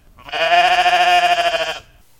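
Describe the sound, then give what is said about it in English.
A single sheep lets out one long, loud, wavering bleat lasting well over a second with a quavering, nasal tone, then falls silent. “Well, that's not how sheep really are, especially if you live right next to them. They are rather demanding.”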